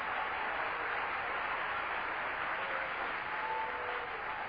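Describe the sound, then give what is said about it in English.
A crowd at a 1998 religious camp meeting claps hands to glorify God, a dense, continuous wash of many hands with no pauses, even in loudness throughout and with no voices standing out. “My God, somebody clap your hands and glorify him right now.”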